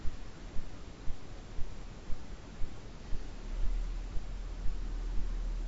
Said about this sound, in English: The bird song, the movement of the twigs and leaves in the trees.